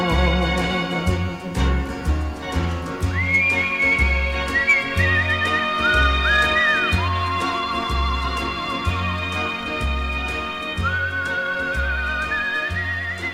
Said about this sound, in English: Makes you want to purse your lips and have a whistle yourself, doesn't it?